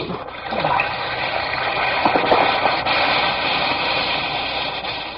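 An Alka-Seltzer tablet fizzes steadily in water, a dense crackling hiss full of tiny popping bubbles that holds an even, fairly loud level for several seconds with no voices.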